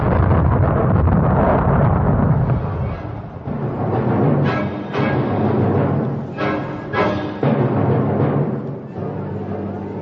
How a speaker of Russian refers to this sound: Всю ночь бушевала буря.